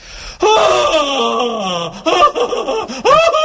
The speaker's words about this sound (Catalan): Atenció als dos següents, que són també, es poden barrejar, eh? Crit de plaer.